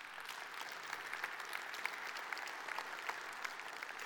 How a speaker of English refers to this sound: And I applaud you for what you're doing. In fact, give yourself a hand right now.